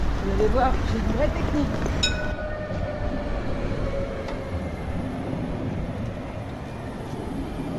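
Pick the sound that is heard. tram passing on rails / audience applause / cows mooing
tram passing on rails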